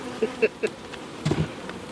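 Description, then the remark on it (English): Honeybees buzz inside a hive with its lid lifted and a microphone put in, in a dense, droning hum, with a few brief louder tones as individual bees pass. No one speaks. “Sound of bees busy doing their job.”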